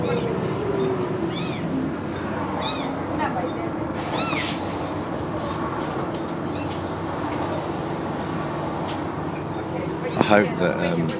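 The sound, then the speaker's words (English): Repeated plaintive, distressed cat meows rise and fall over a steady rumbling background like a moving train, with a voice talking throughout; the cries come in short bursts, distinct. “So I'm wondering if it's a guide cat.”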